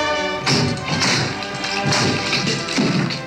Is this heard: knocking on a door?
yes